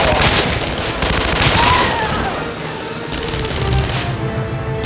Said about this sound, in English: Gunfire came from the sky again as Natalia's helicopter made another pass. It was gunfire from the ground as well as the shore party advanced from both sides.